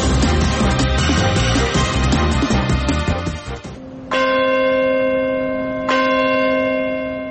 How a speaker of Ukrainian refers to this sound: Дзвін надії лунав у вівторок зранку у Нью-Йорку в пам'ять про жертв терактів 11 вересня 2001 року. Подзвін пролунав о 8:46 за місцевим часом, коли перший із двох літаків врізався у будівлю Світового торговельного центру у Нью-Йорку.